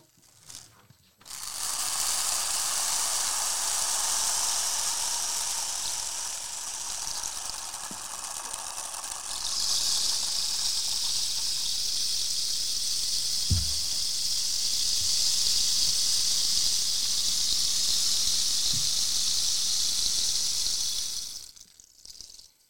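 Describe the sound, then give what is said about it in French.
Rain sticks used as the rain sound effect pour out a steady, rattling hiss of tumbling beads, like a rain shower, for about twenty seconds, growing brighter midway, with a few faint thumps and no talking. “Pour la pluie, on a utilisé des bâtons de pluie.”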